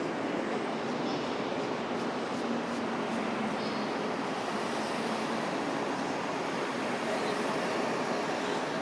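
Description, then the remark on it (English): A diesel train pulls away on its way out with a steady, dense engine rumble and broad hiss that carries on unbroken, moderately loud, with faint tonal whines drifting through. “Some kind of motorised train on its way out. A diesel train.”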